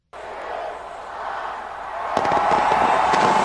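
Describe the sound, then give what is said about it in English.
A steady roar of crowd noise at a New Year's celebration ringing in 2017, with rapid crackling bursts from a fireworks display breaking out partway through and continuing as a dense, loud popping. “New Year's celebrations continue worldwide with fireworks, parties, and other festivities amidst tight security in some major cities.”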